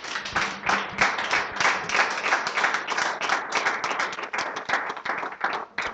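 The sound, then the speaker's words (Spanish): A crowd claps continuously for several seconds, a dense, steady patter of many hands at an even loudness with no voices over it. “Dale un aplauso a nuestro Padre.”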